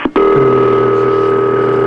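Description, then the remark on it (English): A telephone ring on a call being connected to an operator comes over the line as a steady, buzzy electronic tone after a brief click, holding loud and unbroken for nearly two seconds with no one speaking. “Very few phones have that kind of ring, still.”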